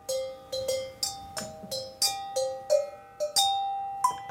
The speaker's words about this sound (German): Das Glockenspiel ist über zwei bestimmte Oktaven angeordnet, montiert auf einer fahrbaren Lafette.